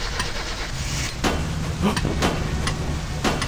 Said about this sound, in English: Oh my god, it started! Now granted, the car was making this horrific banging sound, but it ran. This banging was caused by the camshaft gear being out of alignment.